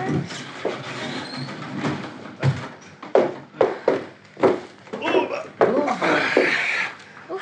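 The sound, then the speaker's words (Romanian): The old wooden door of a hut with somewhat rotted boards, found at a cave up a mountain, is pushed open with a series of knocks, scrapes and rattling thumps, irregular and fairly loud, over a low rumbling background. “Ia te uită, are și ușe.”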